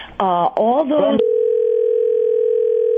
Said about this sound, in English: No, but there's some kind of ringing on the phone for some reason. It's annoying.